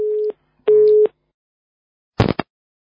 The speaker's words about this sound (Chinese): 哎呦，电话跳掉了。